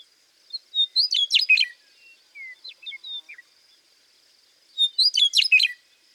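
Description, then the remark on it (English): A western meadowlark, recorded in South Dakota, sings a gurgling, flute-like song: two rich, bubbling phrases a few seconds apart, with a few softer scattered notes between them, clear against a quiet background. “And now here's the gurgling, flute-like song of a western meadowlark.”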